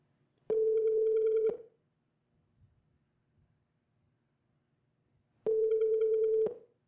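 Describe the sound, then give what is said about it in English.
A telephone ringback tone sounds twice, each steady buzzing ring lasting about a second with a long silent gap between, clear and moderately loud through the line. “Hey, listen, honey, you gotta speak up when you're answering the phone.”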